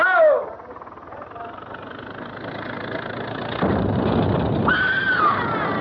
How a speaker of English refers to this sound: What was that? That was what? Didn't you hear it? Somebody screamed.